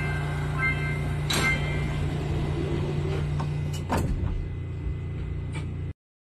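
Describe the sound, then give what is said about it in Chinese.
Inside a metro train carriage in Korea, a steady rumbling hum carries a slightly off-key tonal chime that plays at every station as the doors close, while several sharp clunks and hisses mark the doors closing. “那这边播一段小影片，我觉得那个走音还蛮有趣的，就是电车关门的声音。”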